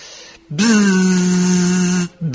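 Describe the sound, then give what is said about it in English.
A voice imitates a group of female bees buzzing, with a steady, low, rasping 'zzz' drone held for about a second and a half, then starts again briefly at the end. “A group of female bees, maddened from drinking honey, they are a little mad, these female bees, helped to wake up Govinda by buzzing even louder than the ringing of cymbals.”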